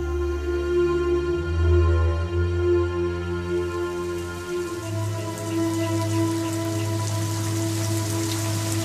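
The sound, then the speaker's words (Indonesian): Steady rain falls and patters continuously on a surface, with a soft sustained musical drone humming underneath. No one speaks. “nanti kalau hujan sudah reda, kita lihat bulan lagi ya nak.”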